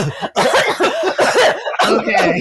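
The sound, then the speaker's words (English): A voice imitates a woman's quick, rhythmic coughs in a pogo-like rhythm, several loud bursts in a row with short gaps. “So when she coughed, it was like a pogo rhythm.”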